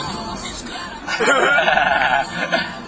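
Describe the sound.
A wavering, nasal goat bleat rises out of a low background murmur and holds for about a second and a half, loud, with a quivering tremble through it.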